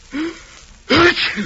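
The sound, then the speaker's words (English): A single loud sneeze: a short voiced intake of breath, a brief pause, then a sharp explosive burst that trails off quickly, with no talking around it. “If the sound you're about to hear sounds like you right now, we're sorry.”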